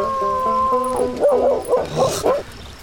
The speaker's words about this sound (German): Was braucht das Vieh so zu heulen, wenn ich spiele? Was brauchst du zu spielen, wenn der Hund heult? Lass mir den Hund in Ruhe. Er kann nichts dafür, er muss heulen. Er ist nämlich musikalisch veranlagt.